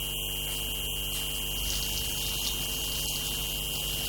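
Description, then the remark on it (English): Water runs steadily from a hose for a few seconds while watering plants in a small yard, a continuous rushing sound over a low mechanical hum, with no voices. “Therefore, I'm here to water her plants.”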